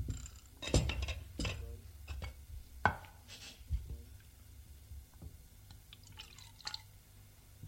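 Coffee is poured into a bowl, with a few sharp clinks of ceramic and some dripping, followed by quieter scattered taps and splashes.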